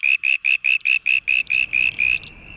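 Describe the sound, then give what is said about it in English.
A male frog in a city gives its newer call, shifted higher in pitch away from traffic noise: a rapid, even series of about ten high-pitched, squeaky pulses, loud, with a faint low rumble of background noise rising beneath. “changing their calls to cope with a noisy environment is actually quite extraordinary for frogs”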